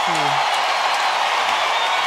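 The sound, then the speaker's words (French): A large crowd at a tennis match in Montreal roars and cheers as Victoria Mboko reaches the final, a steady, dense wash of noise, with a brief whoop rising out near the start, loud and sustained throughout. “Écoutez la foule!”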